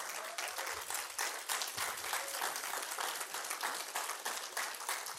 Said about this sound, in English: So by the way, if you've ever led a group or if you're leading a group this semester, let me see, would you guys stand up and let's applaud you really quickly, our group leaders that are in this service.